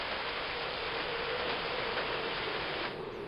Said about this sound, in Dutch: De regen was opgehouden, maar de wind was sterker geworden en floot gierend door de bomen, zodat de bladeren van de takken gerukt werden.